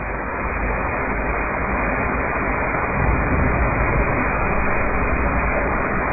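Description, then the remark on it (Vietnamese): Heavy rain pours outside in a dense, unbroken hiss with no voices, holding steady and swelling a little louder about halfway through. “Tại ở bên ngoài mưa lớn quá.”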